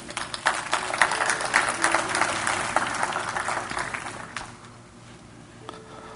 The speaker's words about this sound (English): Thank you, guys. Give them a big hand clap.